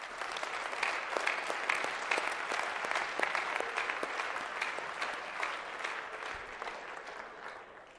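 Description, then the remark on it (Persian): Sustained applause from an audience, a dense patter of many hands clapping steadily for several seconds at moderate volume, tapering slightly toward the end with no talking. “تشویقشون کنید دیگه.”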